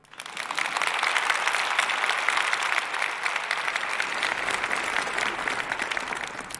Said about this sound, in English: Please welcome her with a huge round of applause.